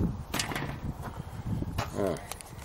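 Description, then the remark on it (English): A door is opened: a couple of sharp knocks and rattles, then a short rising creak of hinges, with faint murmuring in the background. “Well, let's have a look. Door.”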